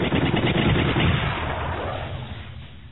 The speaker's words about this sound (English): Engines wailing, they dove into the thickest of the dogfight, firing as fast as their targeting computers showed green.